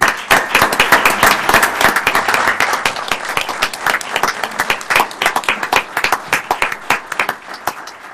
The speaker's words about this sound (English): And a round of applause, please.